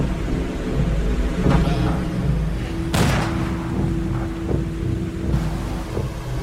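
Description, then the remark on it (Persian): A strong, rushing water current churns steadily with a deep rumbling roar, swelling in brief surges as the current grows faster. It's loud, with no voices present. “خیلی خوب، جریان آب داره سری میشه.”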